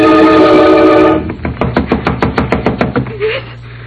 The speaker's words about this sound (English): Yes. Yes. Somebody knocking.